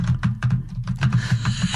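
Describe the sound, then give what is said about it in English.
Rapid clicking of someone typing on a computer keyboard in a restroom stall, a steady flurry of keystrokes over a low constant hum, moderately loud. “On a keyboard.”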